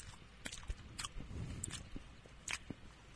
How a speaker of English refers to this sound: I'm going to chew some gum.